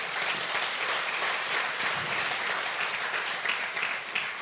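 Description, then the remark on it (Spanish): Sustained applause from an audience during a sermon, clapping for the Lord, a dense, steady wash of many hands clapping at an even loudness for several seconds, with no voices rising above it. “Un aplauso al Señor, es correcto.”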